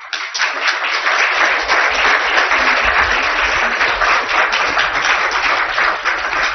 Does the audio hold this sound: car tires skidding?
no